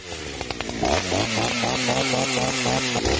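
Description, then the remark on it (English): A chainsaw roars, its engine revving and dipping in a steady rhythm as it carves freehand into a giant pumpkin to make a jack-o'-lantern, with no voices over it. “I'm watching you carve a giant jack-o'-lantern with a chainsaw.”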